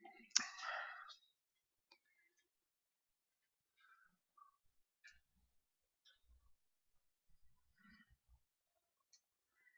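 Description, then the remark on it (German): A short burst of rustling handling noise, followed by a series of faint, sparse plastic clicks from a presentation clicker button being pressed several times at irregular intervals, with no talking. “Der Klick will nicht so ganz.”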